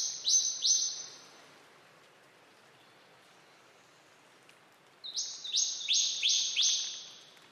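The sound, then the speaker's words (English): A scrub bird sings two loud bursts of piercing, ringing notes, a few rapid strident calls at the start, then after a quiet pause a longer run of repeated shrill notes, over faint background hiss. “And for the next 25 million years or so, songbirds were stuck there, chirping their songs to a very local audience, like the scrub bird.”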